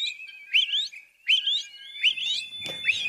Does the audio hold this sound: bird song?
yes